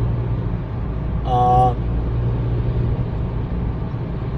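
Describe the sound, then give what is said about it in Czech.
Steady low rumble and road noise of a car driving through a snowy winter landscape, heard from inside, continuous throughout, with a brief spoken syllable breaking in near the start. “Tady krásně vidíte naši jízdu.”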